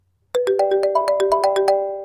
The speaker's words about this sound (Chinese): 操，哪个傻逼这时候在打电话，败坏老子幸运。